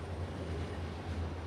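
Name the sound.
freight train passing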